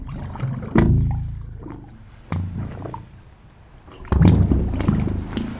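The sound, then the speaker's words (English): Water surging into a pipe produces deep, hollow, organ-like tones that swell in three loud bursts, each resonant moan fading before the next, the pitch rising as the water fills the pipe and leaves less air. No voices are heard. “As the water fills the pipe, there's less air, and that makes the pitch get higher.”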